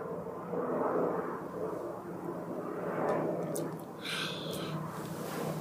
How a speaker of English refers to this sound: Sorry about the airplane right outside. I don't know if you can hear it.